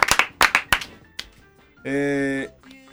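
A short burst of applause, about half a dozen sharp, loud claps in quick succession, then a brief sustained musical tone sounds on its own.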